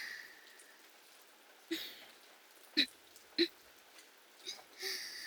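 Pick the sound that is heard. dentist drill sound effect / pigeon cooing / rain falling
rain falling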